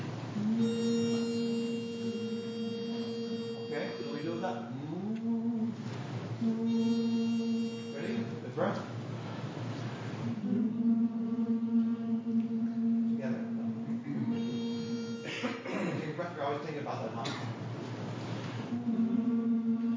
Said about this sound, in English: Let's do it on a hum.